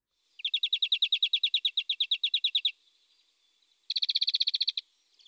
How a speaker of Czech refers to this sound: Ze všech stran se počali sletovat ptáci, nikdo se však neodvážil blíž.